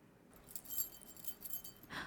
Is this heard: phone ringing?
no